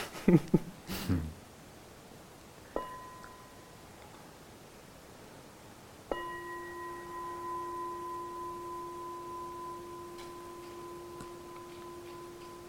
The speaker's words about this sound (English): Can I have a bell, please? Of course. Thank you.